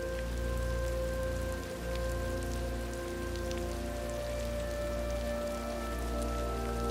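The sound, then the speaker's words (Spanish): Steady rain falls on a garden with trees and rocks, seen through an open door, pattering continuously on a hard surface, dense, with scattered individual drops ticking through the wash. A faint low hum sits underneath, and no one speaks. “La puerta está abierta y te permite una vista directa hacia el exterior mientras observas la lluvia que cae, trazando delicadas líneas.”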